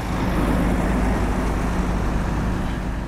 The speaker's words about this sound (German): Francesco Russo mag die Geräusche hier. Güterzüge, Lastwagen, Krane, das Verladen der Container